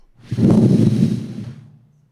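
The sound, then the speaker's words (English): A voice blows a loud, breathy whoosh imitating a rushing wind, rising quickly and then fading out over about a second and a half, with no words spoken. “There was a sound as a mighty rushing wind.”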